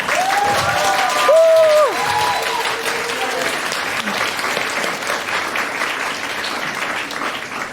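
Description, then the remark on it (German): An audience breaks into steady, sustained applause for the first group, who are presenting their computer game Save the Alpaka. It is a dense wash of many hands clapping for several seconds, with a brief whistle-like cheer rising near the start. “Von daher einen großen Applaus für die erste Gruppe, Save the Alpaka.”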